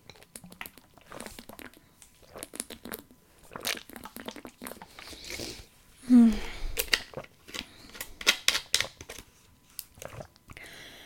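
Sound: drinking water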